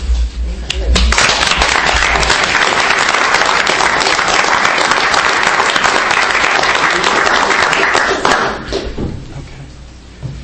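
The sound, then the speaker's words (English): An audience at an award presentation with the Dryden Volunteer Fire Department breaks into loud, dense applause for two girls honored for their fire safety actions, holding steady for around seven seconds, a crackling wash of many hands clapping, then tapering off quickly near the end. “So I applaud both of them.”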